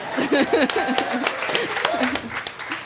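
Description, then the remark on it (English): A few people clap in loose, uneven bursts while voices cheer and chatter over them, the sharp claps cutting through the steady murmur for about three seconds. “Clap that. For Arthur and Una.”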